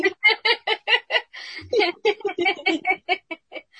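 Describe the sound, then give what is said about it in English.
A chicken clucks in a quick, steady run of short, throaty bursts, about a dozen in a row, loud with a brief rougher squawk partway through. “Every time they do that... I get hungry for chicken.”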